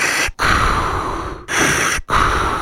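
A man takes deep, loud, gasping breaths of the air at Jim Gass House of Gas, several long heaving pulls of air separated by brief pauses, with no talking.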